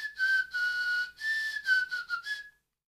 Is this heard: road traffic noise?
no